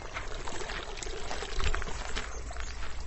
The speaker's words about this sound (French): et l'eau passe d'un seau à l'autre, et puis l'eau est remontée et ça redescend au fur et à mesure